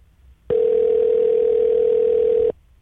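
A single two-second burst of a steady telephone ringback tone on an outgoing call to a former teacher, loud and clean with no one talking, then a quiet gap.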